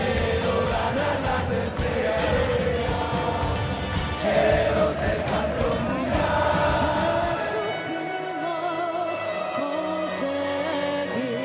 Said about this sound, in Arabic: هكذا كانت الفرحة في قلب العاصمة الأرجنتينية في ساحة الأوبيليسكو. المنتخب الأرجنتيني يجلس على عرش كرة القدم العالمية. نريد الثالثة، رددها الجمهور الأرجنتيني كثيرا.